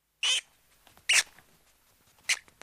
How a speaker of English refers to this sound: That squeaking is the sound of a rat.